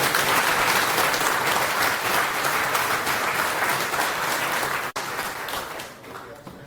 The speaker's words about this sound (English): Come on, big applause.